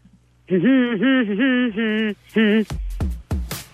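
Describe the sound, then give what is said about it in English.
A woman hums a short song tune, a run of sustained, wavering notes with brief breaks between phrases, followed by a few sharp, abrupt knocks. “Don't say what it is. Just hum it.”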